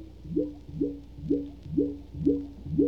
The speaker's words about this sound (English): That's tired blood recorded from the inside. They lowered the microphone on a string.